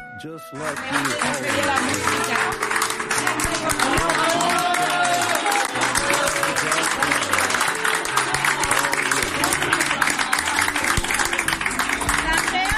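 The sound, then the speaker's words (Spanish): A crowd claps steadily and loudly for a patient leaving hospital, a dense unbroken patter of many hands, with raised voices and cheers mixed into the applause. “De lo que contamos no se acuerda, pero de los aplausos sí.”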